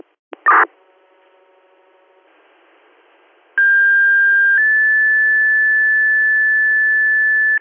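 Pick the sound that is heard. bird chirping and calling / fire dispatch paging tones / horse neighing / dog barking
fire dispatch paging tones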